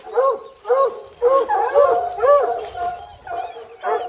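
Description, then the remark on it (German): Several male dogs bark and yelp together in a kennel, their loud calls overlapping in a steady, excited chorus with barely a pause between bursts. “Die sind grundsätzlich zusammen, alle Rüden.”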